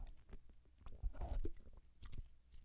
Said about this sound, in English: Let me take a drink of water here just a minute.